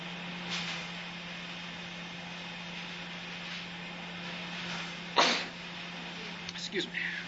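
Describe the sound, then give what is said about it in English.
A single sharp sneeze bursts out against a steady low hum and background hiss, followed by a few faint rustling sounds; no one speaks. “Gesundheit.”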